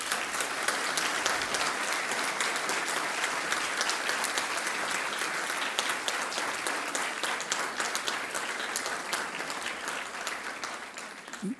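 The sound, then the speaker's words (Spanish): An audience applauds steadily for about twelve seconds on National Statistics Day (Día de la Estadística Nacional), a dense, even wash of many hands clapping at a fairly loud level that tapers slightly at the very end. “Así que un aplauso para ustedes.”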